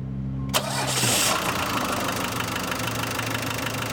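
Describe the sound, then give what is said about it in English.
A small 12-volt pump, hooked up to a van's engine, clicks on with a low hum, then settles into a steady, fairly loud mechanical whir and rattle as it pumps homemade biodiesel out of jugs into the van's fuel tank. Nobody speaks. “And I've just got a little 12-volt pump here that I hook up to the engine and just sucks it right out of the jugs and right into the fuel tank.”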